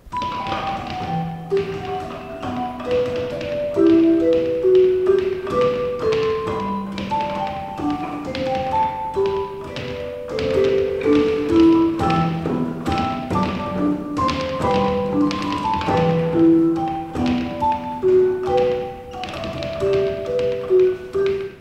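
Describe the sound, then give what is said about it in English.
Fists pound the wooden batons of a carillon practice keyboard that plays electronic sounds rather than real bells. Each thudding strike sounds a short, bell-like pitched note, building a steady, moderately loud melody with overlapping low and mid tones and no talking. “This is not real bells here on this practice keyboard.”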